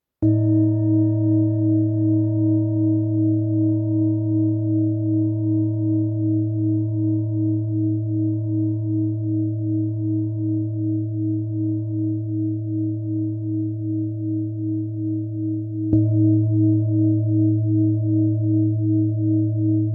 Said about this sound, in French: Un kilo 275 pour ce formidable bol tibétain, tonalité de la. Il sonne vraiment très très grave.